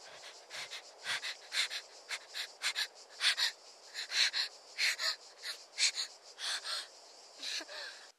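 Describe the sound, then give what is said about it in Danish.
Rapid, shallow breathing of a woman in short, gasping bursts, about two per second, steady throughout, with a faint wheezy edge and no talking. “Jeg kan høre hendes åndedræt ændre sig. Hun trækker vejret meget hurtigt.”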